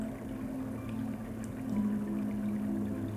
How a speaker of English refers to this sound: So this brief respite this morning, these waves on the shore, My hope for you is that these can be an anchor to self-care.